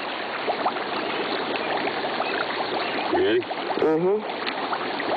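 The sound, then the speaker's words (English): Steady fizzing and bubbling of natural gas rising through the water of West Divide Creek along a stretch of about a quarter to half a mile, a dense hiss throughout, with a voice briefly speaking over it near the end. “It goes all the way down probably a quarter of a mile, half a mile. Because it's really bubbling out here.”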